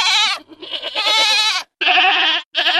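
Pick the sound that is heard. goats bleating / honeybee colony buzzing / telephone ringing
goats bleating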